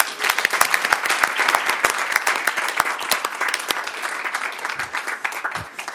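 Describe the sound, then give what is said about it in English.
An audience applauds students at an evening event, many hands clapping in a dense, continuous patter that stays fairly loud throughout and begins to thin slightly toward the end. “And could we have another round of applause for our students tonight?”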